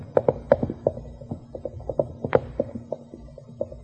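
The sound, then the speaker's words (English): Rapid, rhythmic hoofbeats of a horse galloping away from the woods where it had been tethered, the irregular clatter of hooves fading slightly as it moves away, over a low steady hum with no voices. “Eddie must have had a horse tethered back in the woods.”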